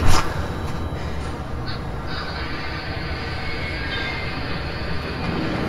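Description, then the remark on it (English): A train rumbles loudly and steadily as it halts violently, with a sharp jolt at the very start and a couple of brief, faint metallic squeals; no voices. “All thoughts of the suitcase vanish as the train halts violently”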